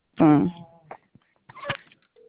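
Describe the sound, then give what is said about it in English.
A brief burst of telephone sounds as someone tries to reach a person by phone: a short vocal sound, a few clicks and dial tones, then a steady electronic tone starting at the end, all clear. “I'm trying to get him on the phone.”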